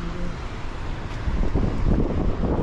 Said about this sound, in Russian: Ветер мне в лицо, поэтому я вот спиной иду.